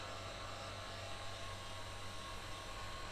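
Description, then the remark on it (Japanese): A hair dryer blows steadily, a constant airy whoosh over a low motor hum that holds at an even level throughout, with no voices. “だけどあなたの髪質ならヘアオイルをして優しくドライヤーしてあげるだけで随分綺麗になると思うわ。”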